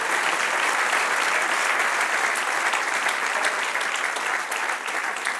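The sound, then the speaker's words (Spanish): A large crowd claps steadily and loudly, a dense sustained wash of applause filling the space for several seconds with no clear pauses. “Denle un aplauso al que reina.”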